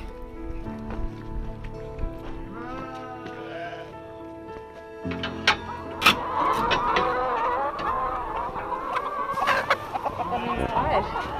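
Dense chorus of around 1,000 hens clucking and warbling in a hen house on a farm, growing busier partway through, with a low engine-like hum underneath and a brief murmur of voices.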